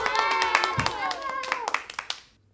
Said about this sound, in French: Et là, oh miracle, le bateau se met en mouvement et glisse doucement vers l'eau. Voyant cela, tout le monde applaudit. Bravo !